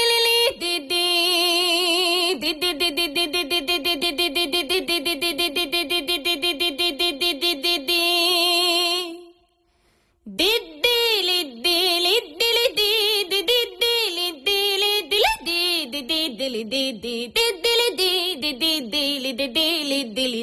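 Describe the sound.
A voice imitates a Rábaköz Hungarian bagpipe (duda), holding a loud, nasal, buzzing drone with quick melodic flourishes on top. It breaks off briefly midway, then resumes with sliding, ornamented notes.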